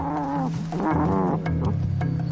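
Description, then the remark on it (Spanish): A wolf pup, bitten on the ear as part of its education, squeals in a series of high, wavering cries, rising and falling in pitch over a couple of seconds, fairly loud with no talking. “A cualquier observador puede parecerle muy, muy cruel morderle la oreja a un lobo pequeño para que chille. Pero el chillido es muy, muy importante en su educación para que entiendan el sonido del dolor.”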